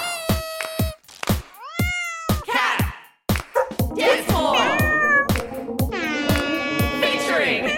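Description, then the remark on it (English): Cats meow over and over, their cries overlapping into a dense, singsong chorus, set against a steady beat of sharp rhythmic hand claps in a loud, busy dance song posted on TikTok. “our brand new song, ….”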